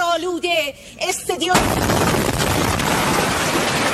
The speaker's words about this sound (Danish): Irans stats-TV er blevet ramt af et israelsk angreb. Midt i en liveudsendelse kunne man pludselig høre en høj eksplosion.